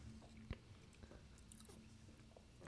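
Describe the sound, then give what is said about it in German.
Crisp bites into a dry Darvida crispbread cracker, light in color and fairly large, followed by a few seconds of crunchy chewing with irregular snaps and crackles, fairly quiet, with no talking. “ja, aber ich probiere jetzt mal Darvida.”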